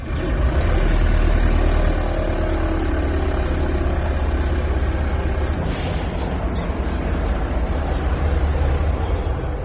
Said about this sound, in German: Also, ich sitze zwischen den Piloten. Dann gibt es ein riesen Zischen und Fauchen und Spucken und Ächzen. Das ist das Anlassen der Motoren.